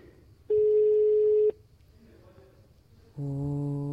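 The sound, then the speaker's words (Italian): An outgoing phone call to a random contact, placed live on Radio Contado, ringing: a single steady, mid-pitched electronic ring tone lasting about a second, a short lull, then a lower, buzzier tone starting up and continuing. “Dio, suona, risponde.”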